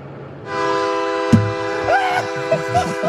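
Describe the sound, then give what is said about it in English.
A loud, sustained train horn blares steadily in a harmonic chord, with a sharp knock partway through and faint voices murmuring underneath. A neighbor plays the train horns, along with his home alarm, from his house on Peach Street in Van Nuys, Los Angeles, several times a day. “Peaceful tree-lined Peach Street in Van Nuys sounds more like a train station because of one neighbor who's been blasting a daily symphony of both his home alarm and train horns.”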